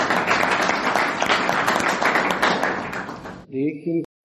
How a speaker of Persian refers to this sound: عالی، تشویق.